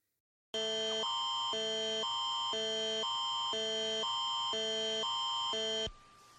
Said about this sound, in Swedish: Vi har ju ingen Amber Alert här i Sverige ännu, men jag tänkte att vi kunde lyssna på hur en sån signal kan låta om man har Amber Alert-funktionen på sin mobil. Alltså hur den larmar när ett barn har försvunnit eller blivit bortrövad.